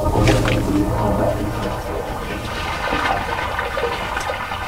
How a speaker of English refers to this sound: Yes, you heard the flush, and now it takes a little while to get here.